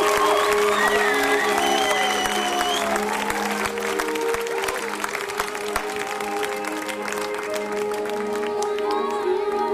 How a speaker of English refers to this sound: Put your hands together for Yin and Yang.